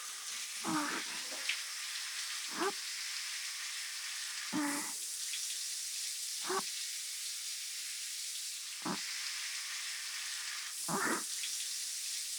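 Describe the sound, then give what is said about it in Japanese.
Shower spray hisses steadily while water sweeps over skin in about six soft splashing passes at uneven intervals, rinsing soap suds off the right arm and from between the fingers. No one speaks. “まずは右腕の泡をきれいに流して、指の間に残ったのもきれいきれいに。”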